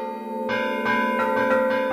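Church bells ring together in a full, overlapping peal at 6 p.m., rung at the same time across Europe for the European Year of Cultural Heritage, with fresh strikes arriving every few tenths of a second over a sustained, shimmering hum of ringing tones. Loud, with no voices.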